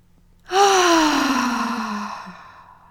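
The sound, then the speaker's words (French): A single long, voiced exhale after a deep breath, demonstrated as a breathing exercise, like a deep sigh, starting loud and slowly trailing off over about two seconds as its pitch drifts downward. No talking. “Vous allez prendre une grande respiration et expirer avec du son, comme ceci.”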